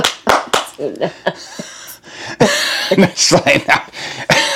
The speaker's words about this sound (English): Are you done? I'm doing a slow clap. What, all of the claps? Slow clap. I feel like that's really loud.